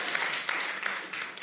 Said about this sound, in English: Oh, the angels in heaven rejoice at the sound of your clapping.